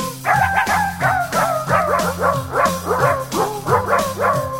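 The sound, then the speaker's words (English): Dog barks and yips pitched into a tune, arranged rhythmically over a steady bass line, forming a bouncy melody made entirely of loud barking sounds with no talking. “This music is by the ….”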